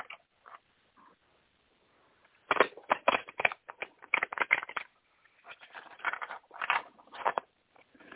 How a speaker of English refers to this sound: Okay. One second. I'm going to shuffle the cards.